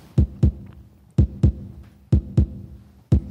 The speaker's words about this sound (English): And it's going to start with a heartbeat, and then it's going to breathe, and we're going to inhale and exhale with the song. Here we go. There goes the heartbeat, it's coming.